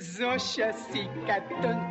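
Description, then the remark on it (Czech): A man sings a comic nonsense song in gibberish lyrics from a film, his voice clear, bouncing through quick, playful melodic phrases that rise and fall in a lively rhythm. “Ovom blistavom muzičkom šalom Charlija Chaplina iz filma Moderna vremena počinjemo priču o muzici za nemi i rani zvučni film”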